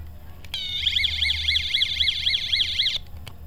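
signal or alarm, alarm going off

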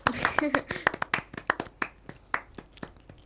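crowd, clapping

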